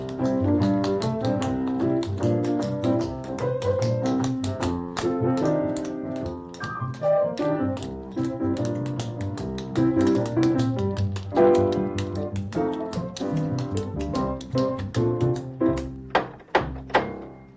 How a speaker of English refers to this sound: Knocking on my clock knocker. Who might it be?